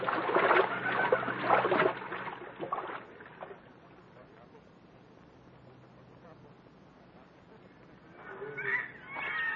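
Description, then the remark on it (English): People wading across a river where the water comes no higher than their hips, with loud splashing and sloshing of water at first, a quieter stretch of gentle trickling, then more splashing near the end as voices briefly talk. “We can cross the river here,”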